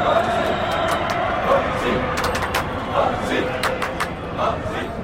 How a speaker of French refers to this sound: La foule danse devant moi. J'ai toujours rêvé de ça. Et là, des milliers qui crient mon nom.